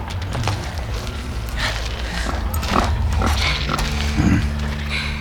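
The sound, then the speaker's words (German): Wild boars grunt and snort in a rough, low series of repeated calls over a steady rumbling undertone, with a few sharper bursts mixed in and no voices. “Die Wildschweine! Keine Panik, Freunde, die tun uns nichts.”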